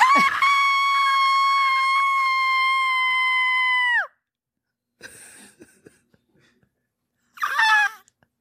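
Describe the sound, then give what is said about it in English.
A loud, sustained excited scream holds steady for about four seconds, followed by brief breathy rustling and a short second shriek near the end. “I'm gonna scream again.”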